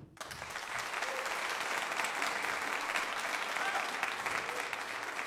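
An audience claps steadily, a dense, even wash of applause that starts almost at once and holds at a constant level for about five seconds, with no one speaking over it.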